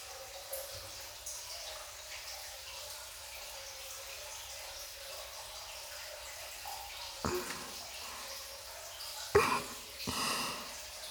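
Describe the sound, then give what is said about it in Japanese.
Scrubbing while washing in a bath: a steady, soft watery hiss runs throughout, broken near the end by a few short, louder rubbing bursts. No one speaks. “ゴシゴシ。”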